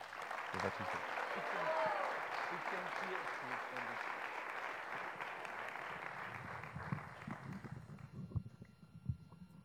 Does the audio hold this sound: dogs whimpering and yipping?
no